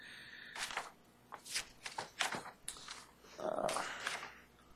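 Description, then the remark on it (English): Papers being shuffled and leafed through during a court hearing as someone searches through motions for something, a series of crisp rustling bursts and crinkles that come in uneven spurts, ending in a longer continuous rustle. No one speaks. “This is what happens when you have too much paper in front of you.”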